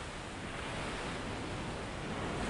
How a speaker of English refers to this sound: Take a deep breath and give yourself over to the sound of the waves. Listen. Listen. The waves are calling to take you to new and exciting experiences.